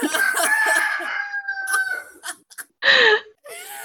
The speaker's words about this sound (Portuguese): O Galo tá falando